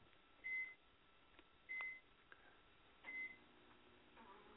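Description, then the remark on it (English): Three short, high-pitched beeps like a microwave oven timer, made by a person's voice imitating microwave beeps, evenly spaced about a second apart, clear over a quiet background with no talking. “Actually, though, that was you, since, you know, you don't want to get the microwave going.”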